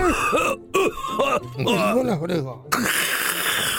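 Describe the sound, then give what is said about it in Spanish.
A fairly loud person coughs and yawns at once: a warbling, drawn-out groan broken by throaty, rasping bursts, ending in a long breathy, noisy exhale. “Tose y bostez al mismo tiempo.”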